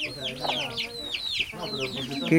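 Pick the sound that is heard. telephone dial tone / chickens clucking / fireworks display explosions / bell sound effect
chickens clucking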